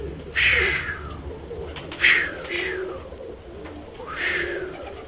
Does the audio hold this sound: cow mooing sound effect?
no